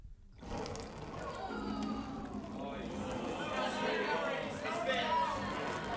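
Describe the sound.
A thin, steady, continuous stream of water is squirted from a person's mouth in a contest for the longest unbroken stream. It pours for several seconds with an even, hissy splash while faint voices murmur underneath.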